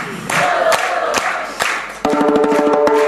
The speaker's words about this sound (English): All right, keep the clapping going. Dobrze, klaszczemy.